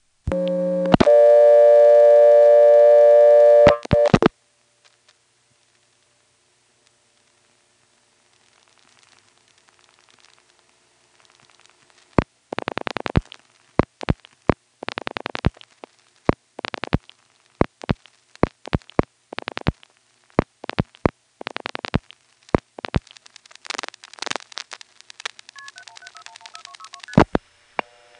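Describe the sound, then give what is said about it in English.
Telephone line tones ring out loudly for a few seconds, then a silent pause before a long stretch of irregular crackling clicks and relay noises as a long-distance call on a long-distance carrier connects through to the Greensboro 4A's vacant code recording, ending with faint tones. “This does go through to the Greensboro 4A's vacant code recording, and it's on long-distance carrier”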